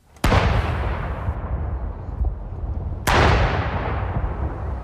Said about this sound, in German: Salutschüsse für Donald Trump. Ein sonniger Tag in London.